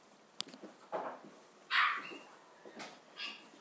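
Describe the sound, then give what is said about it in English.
A dog gives a handful of short, high squeaky yelps and chirps at irregular intervals, sounding oddly like a small bird, with no talking. “He's doing his parakeet impression again.”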